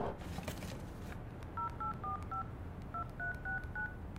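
A string of short, evenly spaced touch-tone beeps as a phone number is keyed in, two quick runs of four or five tones separated by a brief pause, over a low background rumble.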